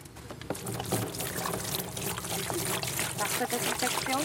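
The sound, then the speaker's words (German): Water sloshes and splashes in a large black tub as a person in rubber boots steps into it to disinfect the boots, the water mixed with a pink disinfectant powder (Virkon S), at a woodland edge in Rosenheim district, Bavaria, on a sunny spring afternoon; a steady, fairly loud churning with a voice talking over it. “Mühl streut ein pinkes Pulver in einen großen schwarzen Bottich voller Wasser und steigt hinein.”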